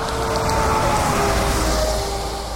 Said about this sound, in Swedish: Hör ni bilarna i bakgrunden? Det är E45-an, mer bekant som A7 här i trakterna. Autobahn nummer 7 alltså. Med tusentals bilar som passerar varje timme här.